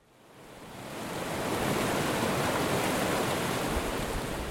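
A steady, full rush of the Arkansas River flowing between high granite walls through Browns Canyon, Colorado, between Salida and Buena Vista; it fades in over the first second and a half, then holds a constant broad roar with no voices.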